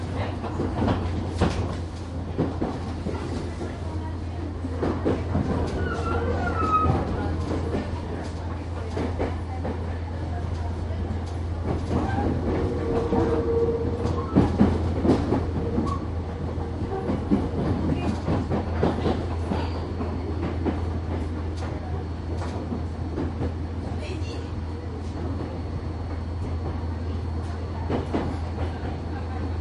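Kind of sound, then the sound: vehicle, train running on rails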